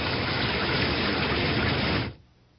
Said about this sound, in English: It's a clear sky above the trees. Maybe we don't get... I was wrong. We get rain again.